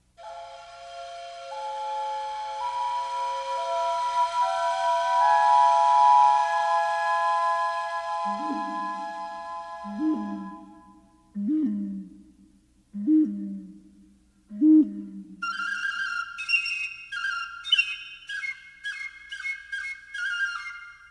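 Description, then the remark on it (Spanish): Hand-moulded clay whistles imitate birds in the wind: a long breathy whistling tone shifting in pitch, then five short low hoots, then rapid, warbling high trills like birdsong. No one speaks. “Y con barro moldeado por sus manos de artista, capturaron el sonido del viento habitado por pájaros y aves.”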